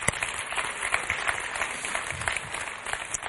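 A crowd applauds steadily, a dense wash of many hands clapping at an even, moderate loudness with no pauses, and no voices stand out over it.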